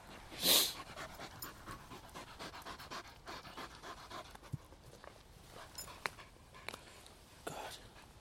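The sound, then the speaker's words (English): A dog pants steadily after nearly an hour of chasing a thrown ball on a green, quick rhythmic breaths repeating throughout, with a louder burst of breathy noise near the start and faint outdoor background. “The dogs never tire. I've honestly been throwing the ball on this green for the best part of an hour.”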